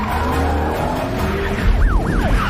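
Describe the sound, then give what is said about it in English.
A car engine roars as tires screech and skid through a sharp turn in a car chase, with rising and falling sirens of pursuing police cars wailing toward the end. “Frank makes another turn, but the cops are still following.”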